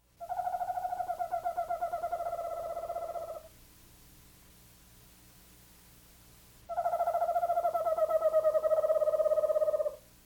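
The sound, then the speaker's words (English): An eastern screech owl gives two long, wavering whistled tremolos, each lasting about three seconds and holding near one pitch, separated by a quiet pause. No one speaks. “Listen again to the rather eerie song of the eastern screech owl.”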